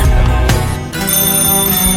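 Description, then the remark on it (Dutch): A telephone rings loudly, a sustained, tonal electronic ring that fills the whole moment with no one speaking over it. “bel me. Wacht even. Hoor.”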